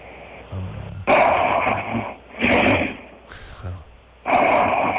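Loud, raspy snoring in four rough bursts, each a harsh rattling breath with short pauses between them, the later snores coming quicker than the first.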